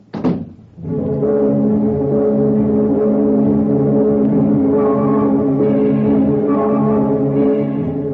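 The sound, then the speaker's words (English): A car door thunks shut, then an engine starts and keeps up a loud, steady, low droning hum as the car is driven out of the garage, heading to The Flame, a nightclub on the outskirts of town; its pitch shifts only slightly. No voices are heard. “You get the car out of the garage, you drive up and park in their parking lot.”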